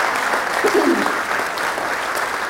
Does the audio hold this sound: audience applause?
yes